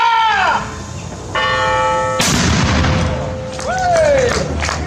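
A single loud cannon blast booms out about midway, its roar decaying into a rumbling echo, surrounded by ringing, bell-like tones that sound before and after the shot.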